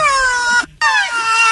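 Two rhinoceroses, with people petting a rhino's horn, give two high, squealing wails separated by a brief pause. Each call is loud and rich in harmonics, with pitch gently falling, sounding almost like a crying infant.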